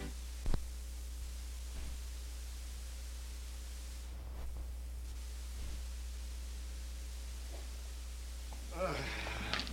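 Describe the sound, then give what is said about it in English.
A horse gives a short, shrill whinny near the end, rising over a steady low hum and faint static, after a few soft, scattered thumps. “How long will that miserable horse of mine complain about his leg?”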